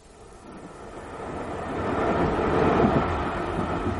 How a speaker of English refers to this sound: People in Staines, Godalming, the commuter trains rattling into the darkening southwesterly suburbs.